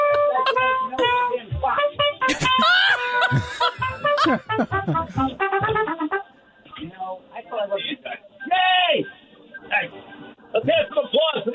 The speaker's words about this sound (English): All I can hear is the trumpet. You can't even hear us.